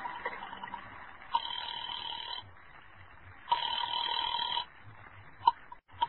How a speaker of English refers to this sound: And I went to a booth and dialed a number.